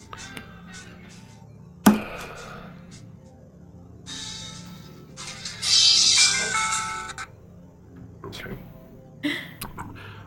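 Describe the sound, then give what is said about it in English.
A phone alert chimes for about a second and a half, bright and high-pitched, amid muffled background voices, with a sharp knock before it and another after. “Uh-oh. I got that and my phone.”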